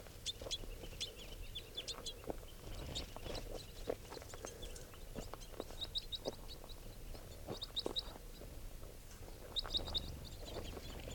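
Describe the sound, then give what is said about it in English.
A small flock of about ten crossbills, two of them red and the rest females and juveniles, gives repeated short, high chip calls in scattered bursts, with clusters of sharper notes over a steady low rumble of background noise. “There are probably about 10 crossbills here.”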